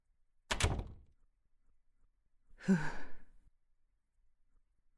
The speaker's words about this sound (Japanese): ここは私の家だ。さっさと入ってドアを閉めろ。